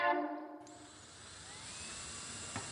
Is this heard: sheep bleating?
no